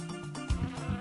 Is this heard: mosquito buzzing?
yes